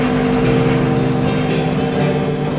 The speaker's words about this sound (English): They turned upstream, and the great red and yellow paddle wheel began spinning rapidly, leaving behind the boat a long, frothing wake.